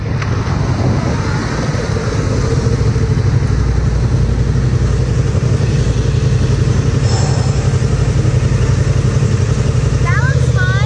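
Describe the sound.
A motorcycle engine idles loudly and steadily as the man on it talks to girls, a continuous low rumble with muffled voices underneath, ending with a brief rising whine as it revs and he rides off.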